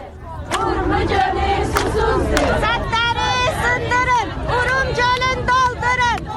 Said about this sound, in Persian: با تجمع در برابر اداره کل منابع طبیعی و آبخیزداری خواستار احیای دریاچه ارومیه شدند و نسبت به پیامدهای خشک شدن این دریاچه هشدار دادند. شرکت کنندگان در این تجمع به زبان آذری شعارهایی از قبیل ارومیه تشنه است و سدها را بشکنید، دریاچه را پر کنید سر دادند.